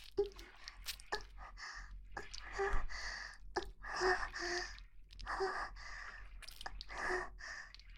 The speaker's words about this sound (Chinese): 弟弟，你的喘气声这么大，有这么舒服吗？